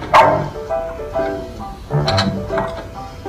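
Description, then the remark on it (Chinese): A dog named Boss (老板) barks several times in short, uneven bursts, moderately loud, with a cluster of sharper barks toward the end and no one talking. “不好意思，我的狗也叫老板。”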